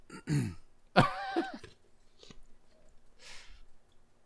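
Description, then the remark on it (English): A short throaty gurgle, then a loud, low, croaking burp lasting about half a second, followed by faint wet mouth sounds and a soft rustle. “Excuse you?”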